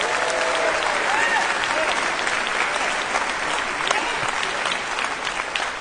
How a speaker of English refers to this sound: Would you give my wife a hand clap? Because she's been married to me for 25 years, okay?